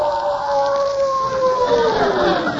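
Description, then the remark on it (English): A wolf howls in one long, unbroken call whose pitch sags slowly downward, fairly loud and steady, over a hissing, windy background with no one speaking. “Wolves? Yes, but they won't attack you unless they're hungry.”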